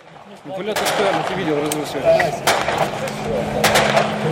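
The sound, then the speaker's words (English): Gunfire and shelling on the front lines in Ukraine during a ceasefire, with separatists shelling from the distance, filmed for Vice News Tonight: several sharp, irregular bangs, some in quick pairs, over a steady rumble while people talk throughout. “That's what the ceasefire sounds like here in Ukraine. Daily shelling, gunfire.”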